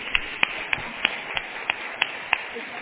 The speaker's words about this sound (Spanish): Les quiero pedir un fuerte aplauso para nuestras invitadas especiales. Muchísimas gracias.